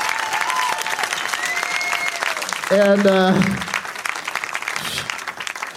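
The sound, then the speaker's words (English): A crowd applauds steadily for several seconds at a Doug Loves Movies taping, for Rory Scovel, Rachel Feinstein and Mark Wahlberg. The clapping is a dense wash that stays loud throughout. A short burst of bright musical tones rises over it midway, and a voice speaks briefly near the end. “Let's have a big round of applause for Rory Scovel, Rachel Feinstein, and Mark Wahlberg.”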